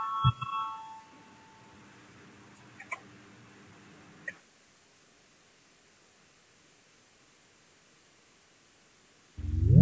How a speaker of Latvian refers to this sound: Lūdzu zvanu, balsosim par 132.